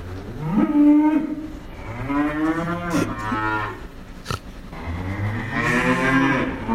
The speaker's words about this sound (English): he sent us he sent us a voice note of some cows in his area.